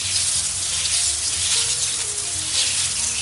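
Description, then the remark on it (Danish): Water blasts steadily from a fire hose held by children aiming at a large bucket, a loud, unbroken rushing hiss with a low rumbling undertone that holds the whole time. No one speaks. “Ungerne bliver helt overrasket over, hvor meget kraft der er i sådan en brandslange, men de får hurtigt styr på det, og de formår faktisk at ramme spanden lidt.”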